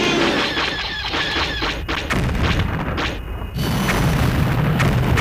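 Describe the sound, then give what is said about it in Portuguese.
Loud, dense effects from a Sega rail-shooter arcade machine released in the late 1990s: booming blasts, squealing whooshes and crashing bursts layered continuously, with a brief dip before the chaotic barrage swells back at full volume. “havia um espaço com máquinas de arcada. E lembro perfeitamente que uma das máquinas era nada mais nada menos que Star Wars Trilogy Arcade”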